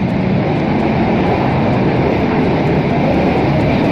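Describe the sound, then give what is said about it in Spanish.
A manually tipped mine cart (mining wagon) rolls along rails with a steady, loud, low rumble and a continuous metallic rattle that holds even for the whole stretch, with no voices. “Es este el sonido de un carro minero o un vagón minero que se volteaban de manera manual.”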